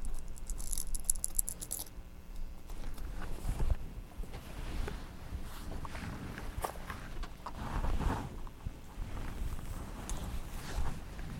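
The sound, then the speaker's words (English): Colorful toy keys, including yellow and purple ones, jangle and clack in irregular bursts, with a brighter rattle at the start and scattered clicks and knocks afterward. No one speaks. “Get the keys again.”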